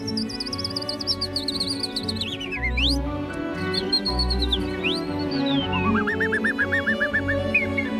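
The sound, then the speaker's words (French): A human voice imitates birdsong from the back of the throat with high whistled chirps, swooping glides and a quick warbling trill, performed continuously over a steady low background hum. “Puis moi, je vais repartir avec quelques oiseaux comme ça au fond de ma gorge.”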